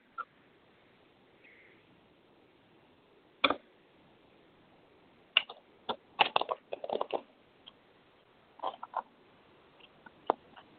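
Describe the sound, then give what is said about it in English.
Cards being shuffled for a card reading: crisp papery snaps and clicks arrive in irregular clusters, a dense flurry midway and a few scattered taps later, with quiet pauses between and no talking. “We'll shuffle the cards.”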